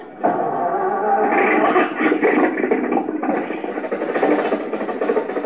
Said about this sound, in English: There you are, Rochester. The motor's going. Back the car out of the garage.